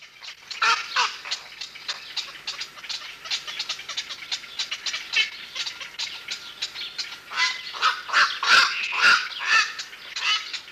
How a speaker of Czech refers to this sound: Takto se ozývaly nejkrásnější naše volavky. Kvakoši noční, ve velké kolonii v naší největší jihočeské ptačí rezervaci, Velký a Malý Tisí.